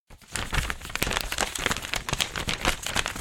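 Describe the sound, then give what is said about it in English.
Steady crinkling and rustling of paper as a 7-year-old boy folds it into a paper airplane in front of a studio audience, with quick crisp creases and crackles running continuously for a few seconds and no voices. “I was wondering if you might show our studio audience how you make paper airplanes.”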